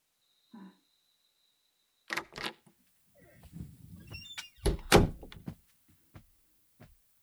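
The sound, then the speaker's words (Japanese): A couple of sharp knocks on a door, then the rattle and creak of the door being opened as someone enters, ending in a heavier thunk, with no talking. “入るぞ。いいか。ノックはしたからな。”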